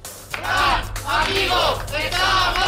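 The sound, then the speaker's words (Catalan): About fifty protesters at the door of the courthouse shout and chant in support of a dismissed company works council president, in loud, rising-and-falling waves of many overlapping voices, with a steady low hum underneath throughout. “estem sentint que aquest matí hi ha hagut sarau per entendre'ns a la porta dels jutjats per l'acomiadament del president del comitè d'empresa.”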